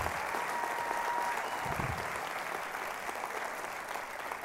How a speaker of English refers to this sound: In fact, I didn't know, I heard you clap so hard there, I didn't know how near dead I was.